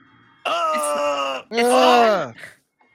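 Two long, loud male groans in a film follow one after another, the first steady and drawn out, the second swelling and then sinking in pitch before it trails off.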